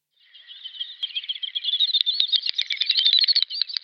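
A secretive wading bird closely resembling the common snipe gives its clicking song, not made with its tail feathers: a rapid, dry series of ticks that starts softly and speeds up into a dense, rattling burst, fairly loud, with no other sounds around it.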